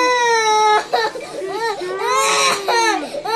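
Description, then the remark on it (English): A child wails loudly and continuously during a teeth cleaning while four people hold him down, a high, strained cry with wavering pitch and a few brief breaks for breath, no other sounds or talk. “And this is what he sounds like when he's got the it's not even a drill.”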